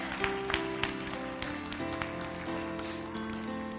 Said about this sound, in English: We want to clap and cheer for you, young lady, so stand up right now.